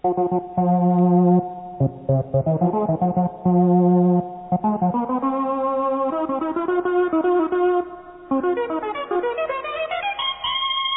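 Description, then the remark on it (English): A resonant synthesizer patch plays a series of bright, buzzy notes, some held and some short, with a slightly distorted ring-modulated edge and a rising run near the end. It uses high filter resonance with a percussive envelope, and the ring modulator adds electronic distortion when two notes play at once. No voices. “A high degree of filter resonance with a percussive envelope gives the proper harmonic sound. You'll also notice that we're using the ring modulator.”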